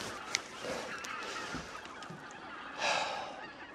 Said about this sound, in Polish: Wygląda, że te wszystkie gąski siadły na jeziorze ptasira i zaraz wejdziemy na wieżę, będziemy je oglądać i nagrywać, bo jazgot jest niesamowity. Ile jest gęsi w ptasim raju dzisiaj? Wszystkie!